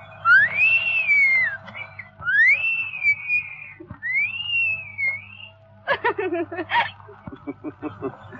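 A girl whistles three clear, loud phrases, each a rising-then-falling melodic swoop, followed by a burst of short breathy chuckling sounds with a low hum underneath throughout.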